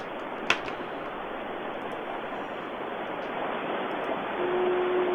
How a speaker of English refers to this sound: I'm right near Wheeler Creek, Phil, and you can hear the running water, the running, I'm sitting next to Wheeler Creek, Phil.